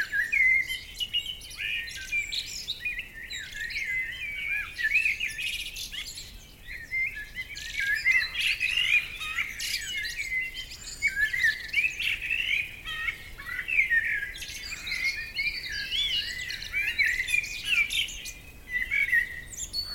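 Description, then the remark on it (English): A busy chorus of many birds chirping and trilling at once in a Scottish forest at dawn, a robin heard first, bright overlapping calls continuing steadily without pause, with no voices present. “The early morning calls of the birds and some of the folklore that has woven its way into the fabric of this Celtic land.”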